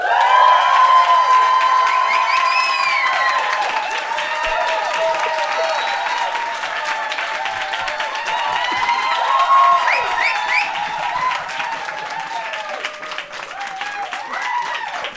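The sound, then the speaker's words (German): A live audience at the Menschmeier, at a Deutsche Wohnen und Co. enteignen solidarity party, claps and cheers loudly and continuously for about fifteen seconds, with scattered whoops and shouts rising above a dense wall of applause. “Heute live mit Publikum, so wie ihr gehört habt, aus das großartige Menschmeier, wo wir unser DWE Soli Party feiern.”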